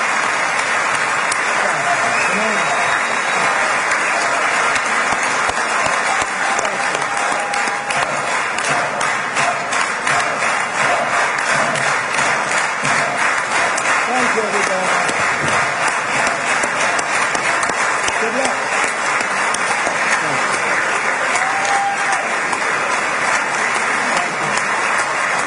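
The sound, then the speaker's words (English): Members of the Israeli Knesset (Parliament) give sustained, dense applause, loud and steady throughout, with scattered cheers and voices rising over the clapping, cheering President Trump, President of the United States, after his address to the Israeli Parliament. “Israeli Knesset cheering on the President of the United States in what is a rare honor for any president to address the Israeli Parliament.”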